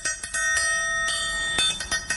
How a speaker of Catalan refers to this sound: El triangle. A partir d'un so de cabassa i un so de triangle, la peça elabora una espècie de loop musical, abans que pròpiament el concepte sigués una realitat, i l'anem sentint al llarg de tota la cançó.